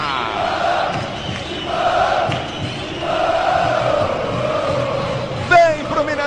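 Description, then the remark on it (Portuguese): A large crowd of Corinthians football fans chants at the Mineirão stadium in rhythmic, repeated phrases, a dense roar of many voices rising and falling in steady waves, filling the whole space. “Canta, Fiel Mineirão, calado, sinto o clima.”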